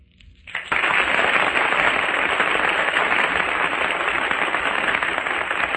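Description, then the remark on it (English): A studio audience at a 1938 radio echo contest bursts into loud, sustained applause to judge a competitor, after a brief quiet moment, a dense wash of clapping that holds steady for several seconds with no voices over it. “Well, I think according to the applause here in the studio given to the competitors in this Echo contest”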